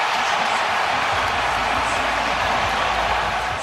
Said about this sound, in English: Oh, great. The crowd. That sounds really so good.